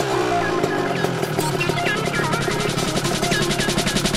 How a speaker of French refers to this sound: Eh bien, la Triumph 1050 Speed Triple, c'est un 3 cylindres en ligne de 1049 cm3 qui développe 132 chevaux à 9200 tours minute, une boîte à 6 rapports pour un poids de 162 kg.